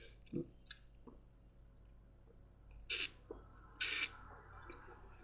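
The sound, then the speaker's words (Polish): Someone takes a sip of beer: a few soft clicks, then two short hissy slurping gulps, with no talking. “Pozwólcie, że zrobię łyka piwa, zanim przejdę do sprawy, do sedna sprawy.”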